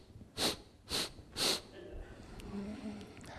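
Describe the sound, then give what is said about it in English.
A voice imitates a young son sniffling inside the door of his room, still crying: three sharp, breathy sniffs in a steady rhythm, fairly loud, trailing into a faint, low whimpering cry. “Sniffing inside the door, still crying.”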